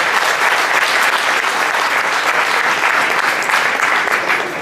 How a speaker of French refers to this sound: Un tonnerre d'applaudissements pour ces dirigeants de qualité, s'il vous plaît.